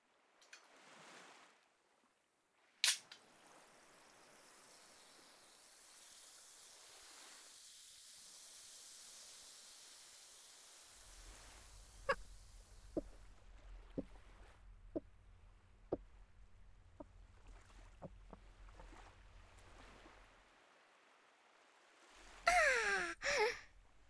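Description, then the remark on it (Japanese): A soft fizzing hiss, then a run of steady, rhythmic gulps as someone chugs strongly carbonated sparkling water in one go, ending in a short, loud burp. “してる途中ですっごいゲップ出ちゃったね。”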